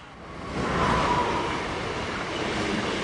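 A commuter train rolls along its rails with a steady rumble that swells early on, a faint thin squeal briefly riding above the roar.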